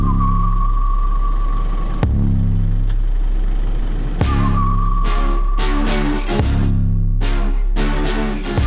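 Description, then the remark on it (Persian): A car engine is started and runs steadily at a low, droning idle, with a faint whine above it and several brief surges or clunks, with no talking. “نیکو رو انداختم پشت ماشین، استارت رو زدم و صدای موزیک رو تا آخر بردم بالا.”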